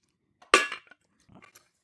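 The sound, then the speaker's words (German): Ice cubes drop into a glass with one loud, bright clink that rings briefly, followed by a few softer, scattered clinks and rattles as they settle. No one speaks. “Nur Eiswürfel.”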